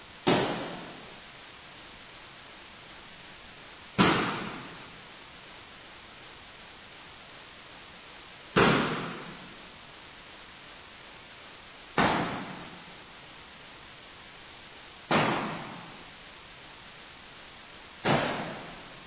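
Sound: explosions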